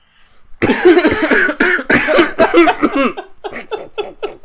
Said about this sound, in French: Attends, je tousse juste une dernière fois.